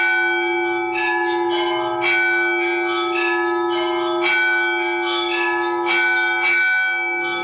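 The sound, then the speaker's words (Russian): Church bells of the revived church in the village of Novoeremkino ring out continuously, with repeated overlapping strikes over a steady sustained hum of tones, loud, with no voices. “Они очень радовались тому, что церковь вновь возродилась, и опять слышен колокольный звон.”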